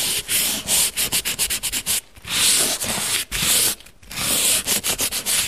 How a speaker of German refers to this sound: Der Kreidegrund muss ganz fein geschliffen werden. Ganz eine wichtige, was man jahrelang in der Lehre einen beigebracht wird und eigentlich ganz ein wichtiger Schritt, das ist das Schleifen.